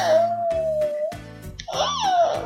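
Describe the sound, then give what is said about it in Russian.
A child imitates a kitten's meow with two drawn-out, wavering high-pitched cries, the second rising and then falling, sung over a faint steady hum in the background. “А котенок как мяукает?”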